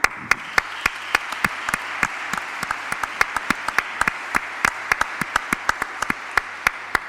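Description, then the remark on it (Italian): An audience applauding steadily at an evening gathering in Trieste, Italy, with dense overlapping claps and a few sharper individual claps standing out, sustained at an even level for several seconds. “A tutti loro il nostro grazie di cuore, il nostro applauso.”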